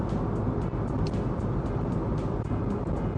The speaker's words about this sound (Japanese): さて、車が減っています。だいたいお昼時だからみんなお昼食べるんだろうね。